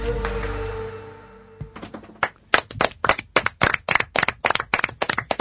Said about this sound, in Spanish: ¿Para quién van los aplausos? ¿Para quién el primer lugar de esta semana en el concurso de cuentos?